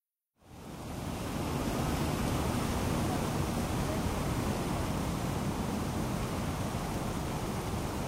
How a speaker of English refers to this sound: I'm at the 9/11 Memorial at Ground Zero in Lower Manhattan. You can hear the water rushing into the voids where the towers once stood.